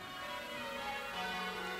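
church bells ringing

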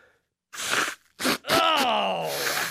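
blowing nose

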